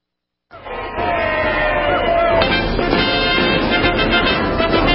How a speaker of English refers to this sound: I'm digging it. Oh. I'm excited. It is good. I just hear the cheering. You can't help but get excited about it. That's all. This is in a parade.